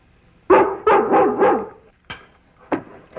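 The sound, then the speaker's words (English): A dog, Lassie, barks in a quick, loud burst of three or four overlapping barks, then pauses and lets out two sharper single barks, with no other voices. “Now, Lassie's a smart dog.”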